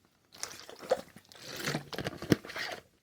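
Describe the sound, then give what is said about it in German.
Someone takes a sip of water: soft slurping and liquid sounds with a couple of sharp little clicks and a swallow, no talking. “Darauf trinke ich einen Schluck Wasser.”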